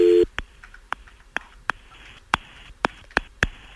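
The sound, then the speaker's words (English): A brief steady telephone tone, followed by a string of sharp clicks at uneven intervals as a phone number is dialed on a telephone. No voices are heard. “I'm going to dial the number here.”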